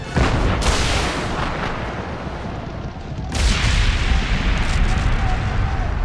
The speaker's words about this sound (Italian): Invece di sparare a Shang Yu, Mulan inclinò il cannone e sparò alla cima della montagna.